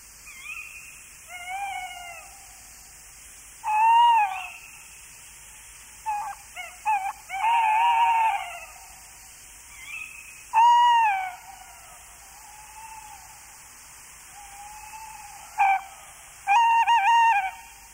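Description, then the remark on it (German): Tawny owl calls ring out in several separate bouts, wavering tonal hoots and shrill notes spaced by quiet gaps, clear, with no talking. “auch auf eine reich strukturierte Landschaft angewiesen ist, das ist der Waldkauz.”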